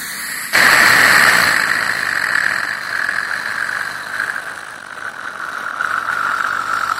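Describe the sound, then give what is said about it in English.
A dental suction straw, used to wash out the mouth, switches on abruptly and runs steadily, a loud airy hiss with a whining tone that sags slightly in pitch over several seconds, no voices. “you put that straw in, and it's that suction thing”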